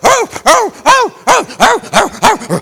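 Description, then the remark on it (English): A man's voice imitates a dog barking, about seven loud bark-like yelps in a quick steady rhythm with no other talking. “Let me tell you, free dogs don't bark. You don't see dogs going down the road.”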